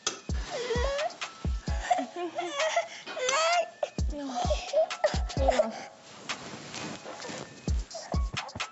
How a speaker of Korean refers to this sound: 아이고. 귀여워. 애기들은 잠들 때랑 깨어날 때 좀 울어.